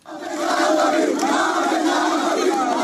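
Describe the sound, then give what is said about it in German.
A large crowd of young Israeli nationalists and extremists chants "Death to the Arabs" in unison at the Damascus Gate in East Jerusalem, a loud, sustained roar of shouting that holds steady for a few seconds with rhythmic vocal surges. “Israelische Nationalisten und Extremisten, die meisten von ihnen Jugendliche, standen vor dem Damaskus-Tor in Ost-Jerusalem und skandierten Tod den Arabern.”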